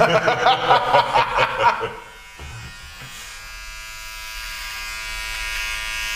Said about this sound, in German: Du rasierst mich auf der Nase, ist ja der Hammer. Ja, da war, das störte mich.